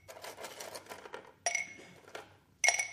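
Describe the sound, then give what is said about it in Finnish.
Stones clatter and rattle as they are poured into an empty glass jar set on a base during a demonstration, a dense run of clinks followed by two sharper ringing impacts, fairly loud. “Nyt mä täytän tämän lasipurkin tällaisilla kivillä.”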